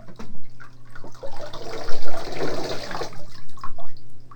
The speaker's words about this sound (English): I poured water on here, Dad. I poured water on here.